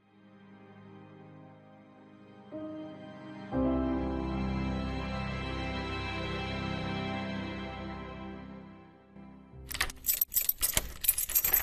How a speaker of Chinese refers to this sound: 到门外钥匙的声音